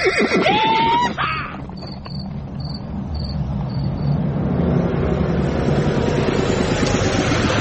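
A horse whinnies loudly at the start, then a steady rumbling clatter of a horse-drawn stagecoach rolls in, with a faint chirping of insects over the noise.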